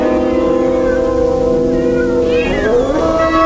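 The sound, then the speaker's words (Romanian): Several cats meow in long, wavering, overlapping cries, one rising sharply near the end, loud with no talking. “Bătrâna era cum era, dar pisicile...”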